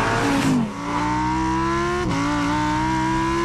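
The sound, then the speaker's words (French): A Lamborghini Huracán STO sports car engine with 640 horsepower revs hard and accelerates, its loud rising whine dropping briefly at two quick gear shifts before climbing again, with no talking. “Il s'agit de la redoutable Huracan STO, 640 chevaux sous le capot, testée sur circuit par nos confrères de Turbo.”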